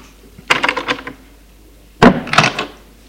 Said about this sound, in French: Deux heures plus tard, une domestique entre dans la chambre. Les voit et referme la porte.